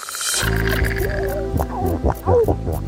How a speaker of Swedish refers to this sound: Sälar som knorrar.